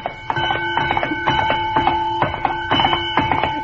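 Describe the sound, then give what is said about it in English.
A bell, rung by two men dressed as a horse at a costume dance, clangs over and over in quick, slightly uneven strokes, each hit adding to a bright, sustained metallic ring that hangs in the air throughout. No one speaks. “but what is the idea of the bell?”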